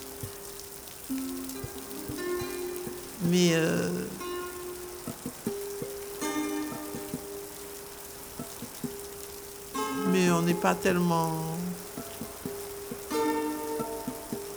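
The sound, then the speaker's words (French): Light drizzling rain makes a steady, soft hiss throughout, with a voice speaking briefly over it and a few short tonal sounds rising above the patter. “Alors, c'est la pluie. Il bouine.”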